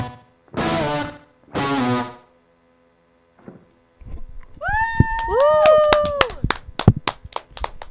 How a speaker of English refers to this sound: sorry if that clapping was really loud.